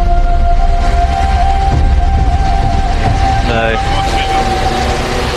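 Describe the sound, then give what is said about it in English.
A drone's steady, high-pitched motor whine as it flies close to a waterfall above a gorge, over the waterfall's constant loud roar, with a brief burst of voices partway through. “The drone flies close to the falls.”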